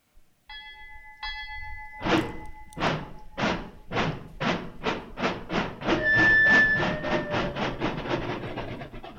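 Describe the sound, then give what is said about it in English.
A jazz band imitates a steam train: a whistle-like chord opens, then loud, rhythmic chugging beats steadily quicken, with a high whistle tone sounding over the chugging near the end. “Listen to that rhythm train, boy.”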